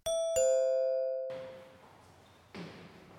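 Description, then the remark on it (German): A doorbell at a front door chimes with two bright ding-dong tones that ring out and fade, followed by a soft rustling shuffle of movement. “klingelt es auch schon an der Tür und vor ihr steht Berli”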